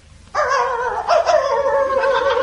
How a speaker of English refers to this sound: it's a dog. Here, boy, here. Come on, good boy.